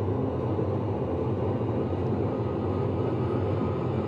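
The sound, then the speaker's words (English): Steady, heavy engine roar with a deep rumbling low end, holding at a constant loud level throughout as an aircraft in a simulation, thrusters up and brakes released, accelerates down the runway toward about 220 knots for takeoff; no voices are heard. “Here's some tape of us taking off.”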